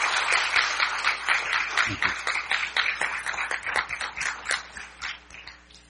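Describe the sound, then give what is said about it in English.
A room full of people applauding to congratulate a young woman, a dense, steady patter of many hands clapping together that gradually thins out and fades toward the end. “So let's go ahead and give her a round of applause.”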